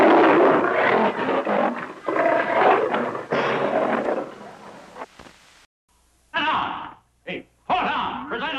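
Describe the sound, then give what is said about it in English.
Lions roar loudly, a long stretch of overlapping rough growls, then a brief quiet and a few shorter, snarling roars toward the end. “Ah, they're nothing but overgrown pussycats. Who's afraid of them?”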